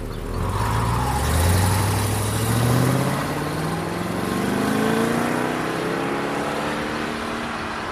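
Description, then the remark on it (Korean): A taxi's engine revs as the driver pulls away, its pitch climbing steadily, over a constant gritty rumble of the tires scraping on a gravel road, staying fairly loud before easing off slightly. At a dead end in Scotland on a cold late-spring day. “운전사는 타이어로 자갈길을 긁는 끼익 소리와 함께 택시를 몰고 떠났다.”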